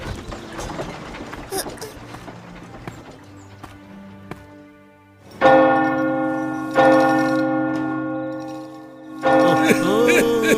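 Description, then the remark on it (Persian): After a stretch of faint clattering, a door bell rings out loudly three times, each resonant strike swelling and lingering in a long, humming decay. “خیلی وقت بود صدا این زنگ در نیومده بود.”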